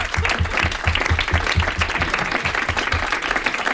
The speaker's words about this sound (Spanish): Joder, por favor, un aplauso.